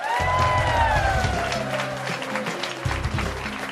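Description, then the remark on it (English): A lively bar crowd at the Belly Up Bar in Aspen, Colorado, applauds and cheers for the public radio show Marketplace in a steady, dense wash of clapping and whoops, with a musical theme playing underneath for the whole few seconds. “From American public media and in front of a lively crowd at the Belly Up Bar in Aspen, Colorado, this is Marketplace.”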